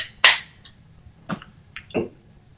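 A 12-ounce can of Oddside Ales Caged Wisdom beer is cracked open with one sharp, loud snap and a brief fizzy hiss, followed by a few quieter clicks and metallic taps. No one speaks.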